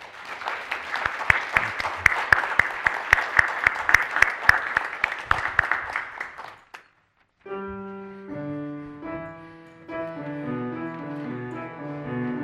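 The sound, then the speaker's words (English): An audience claps steadily for several seconds in a dense, crackling burst of applause that fades out. After a brief pause, sustained musical notes begin to play. “And you can clap if you'd like.”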